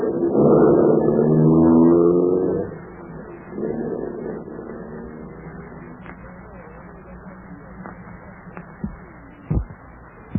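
A black sedan's engine is started and roars to life, revving loudly as it is put into gear, then drops in pitch as the car pulls away into the night, its droning hum fading, with a few faint clicks near the end.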